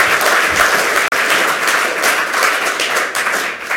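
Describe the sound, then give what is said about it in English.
A crowd claps loudly and steadily, giving the audio crew a round of applause, dense applause from many hands with no pauses except one brief dropout. “Okay, give the audio angels a huge round of applause for coping with all”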